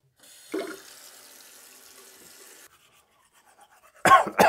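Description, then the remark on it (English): Teeth being brushed with a new toothbrush in a bathroom, held at an angle of 28 degrees, 34 minutes and 30 seconds: a steady scrubbing hiss for a couple of seconds after a small clunk, then quiet before a short, louder burst of bathroom noise. “Which brings us to my bathroom, where I can hold my new toothbrush at the perfect angle.”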